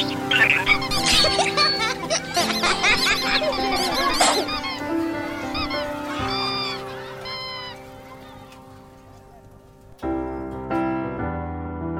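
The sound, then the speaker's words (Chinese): A dense flock of seagulls at Cuihu (Green Lake) in Kunming, China, squawks and cries loudly for several seconds, the calls overlapping; they then thin out and give way to sustained musical tones. “东观海鸥，夏赏雨荷，软堤漫步，凉亭唱戏。”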